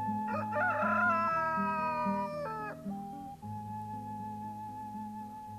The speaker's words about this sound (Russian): Отрекся трижды он, костер потух, и где-то близко прокричал петух.